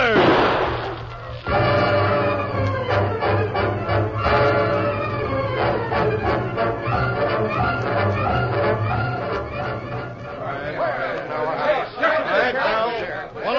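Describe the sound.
A chaotic scuffle: a rapid series of sharp thumps and smacks like punches landing, mixed with overlapping shouting and grunting voices throughout, loud and continuous for over ten seconds.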